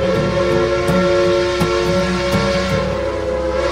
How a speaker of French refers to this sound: Nous sommes dans un univers steampunk. Nos concitoyens apprécient notamment le sifflement de la vapeur qui s'échappe, les petites énergies de engrenage.